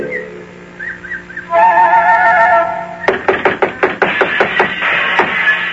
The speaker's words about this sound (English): Oh, it's no use. They're making so much noise inside the little house. They don't hear me knock.